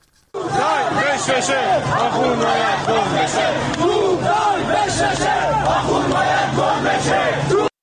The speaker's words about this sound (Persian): قم تصاویری منتشر شده از یک جوانی که یک عمامه رو در دست داره، در مشت گرفته و شعار توپ تانک فشفشه آخوند باید گم بشه، مرگ بر دیکتاتور. بریم به قم یه صدای معترضان اونجا رو بشنویم.